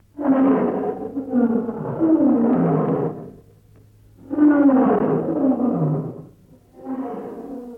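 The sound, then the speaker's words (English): A lion roars in three long, loud, rumbling bursts separated by short pauses, the last one cut off, over a faint low hum. “The lion, then they call him the king of the beast, the king of all the animals. When lion can't shout, when he can't make sound, the thing they make the other animals to begin to fear, them body go they shake and they go run, go hide.”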